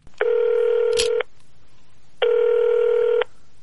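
A telephone rings twice before a North Korean defector's phone call with his future daughter-in-law, each ring a steady buzzy tone lasting about a second, separated by a second of quiet, with a faint click during the first ring and no voices.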